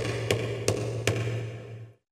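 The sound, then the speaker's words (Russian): Three firm knocks on a door land at an even, steady pace over a low constant hum, then everything falls silent. “В дверь застучал.”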